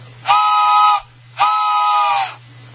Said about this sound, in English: What? A train in the studio?